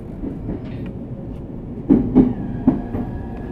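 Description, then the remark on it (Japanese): A JR East train rumbles steadily as it pulls into Ōmiya station, arriving at platform 3, with three heavy clunks from the wheels and a thin, sustained whine rising near the end as it slows. “大宮です。到着ホームは3番線です。お出口は右側です。”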